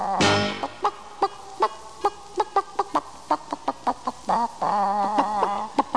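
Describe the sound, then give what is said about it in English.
Chickens cluck in a rapid, uneven series of short, sharp calls, fairly loud, with a few longer warbling notes near the end and no talking. “Let's talk about chickens!”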